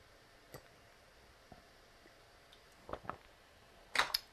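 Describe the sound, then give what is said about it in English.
A few soft mouth and throat sounds of someone sipping water: faint clicks, then a pair of quick wet gulps and a sharper click at the end, without talking. “But I'm going to take a sip of water here.”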